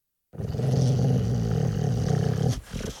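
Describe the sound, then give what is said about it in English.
A dog, Bodger, growls aggressively after a bear cub hits him on the nose with its paw, one deep, loud rumble lasting a couple of seconds, then breaking off into a shorter, rougher grumble at the end. “Bodger's eyes opened and he growled aggressively.”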